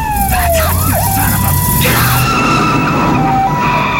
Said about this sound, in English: And meanwhile, they are just cutting through traffic, sirens blaring, trying to get to the house on time.